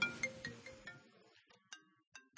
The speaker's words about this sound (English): Timer, it's not a phone call. I don't know what happened here. Sorry.